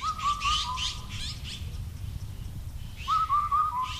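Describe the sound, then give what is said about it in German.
Birds chirp and whistle outdoors among meadows and small woods in the village of Songchuang outside Beijing, China, in two lively bursts, a high warbling line over busy twittering, with a lone cuckoo calling and a steady low rumble of ambient noise underneath and no voices. “In den Wiesen und Wäldchen zwitschern die Vögel, ruft ein einsamer Kuckuck.”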